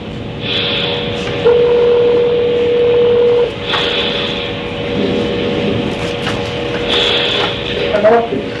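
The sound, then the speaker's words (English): Telephone keypad tones as a phone call is placed, sounding over a low background hum, with a steady electronic tone held for about two seconds and a few short beeps around it. “Someone that we need to make a phone call for you, and as soon as we do that, then we'll be ready to move forward, sir.”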